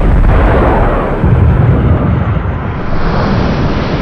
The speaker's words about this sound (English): What was that out the window? That was half a helicopter. What the hell? The helicopters are blowing up.